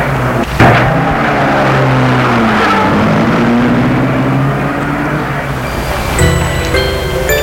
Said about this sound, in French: a vu la voiture s'éloigner.